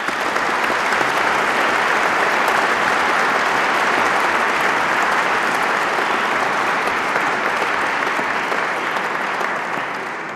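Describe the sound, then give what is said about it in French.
Sustained applause from an audience at a prize-giving ceremony as the prize winners stand: a dense, steady wash of many hands clapping at a strong, even level for about ten seconds before easing slightly at the end, with no talking. “Je demande aux lauréats de se lever et je vous demande de les applaudir.”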